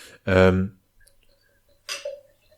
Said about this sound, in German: Jetzt, bevor ich die Frage stelle, schnappst du dir jetzt aber gerade ein Bierchen und machst es ganz theatralisch vor diesem Ding auf.